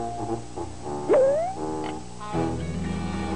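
A dog lets out a short, rising howl that swoops upward in pitch, clear, with steady tonal background sounds underneath and no talking.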